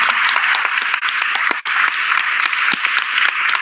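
A crowd applauds steadily, a dense wash of many hands clapping at once with scattered sharper claps standing out, loud and sustained throughout with only a brief dip midway.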